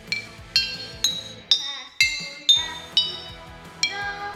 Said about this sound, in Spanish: Los materiales para hacer un botellófano son botellas, agua de diferentes colores y un palito.